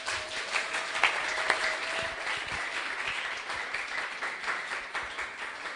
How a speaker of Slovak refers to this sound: Takže neutiekli ste, zostali ste, zaslúžite si ešte jeden potlesk.